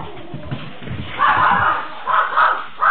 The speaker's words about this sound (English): I am glad that dog didn't catch the bear.